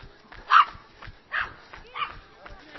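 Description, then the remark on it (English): A dog barks three times in short, sharp bursts spaced about a second apart, among dog walkers on Hampstead Heath, over a low murmur of outdoor background noise. “There we go, past the dog walkers of Hampstead Heath.”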